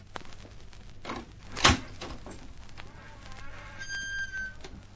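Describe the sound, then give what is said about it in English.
A door handle rattles with a sharp click as someone tries the door, followed by the door creaking slowly open on a squeaky hinge, set against a low background hum. “Try the door.”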